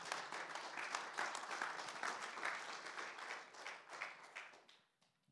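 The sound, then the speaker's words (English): An audience bursts into sustained applause for Jesus, many hands clapping in a dense, steady wash for about five seconds before it quickly fades out. “Can you applaud Jesus, please?”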